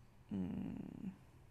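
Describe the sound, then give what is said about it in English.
A person imitates a low, rough growl with their voice: a single raspy rumble lasting just under a second, moderately loud, with quiet before and after. “Growling. You can combine that with purring.”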